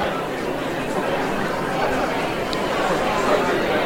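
Dense, steady babble of a large crowd at the Suncoast Tiger Bay Club at the Yacht Club fills a packed room, a continuous indoor crowd murmur with no single speaker standing out.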